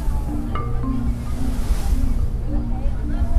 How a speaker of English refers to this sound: The boat turned and motored toward the whale.